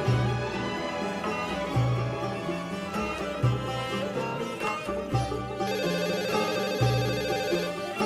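telephone ringing

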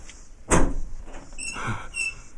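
door being opened

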